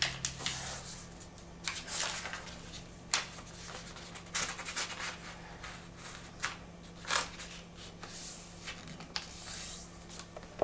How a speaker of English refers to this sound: With your paper colour side down, fold in half diagonally, both ways.